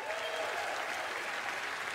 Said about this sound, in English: But the room of professional athletes and sports agents and reporters all applauded for her anyway.